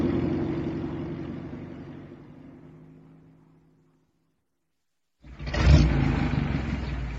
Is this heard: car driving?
yes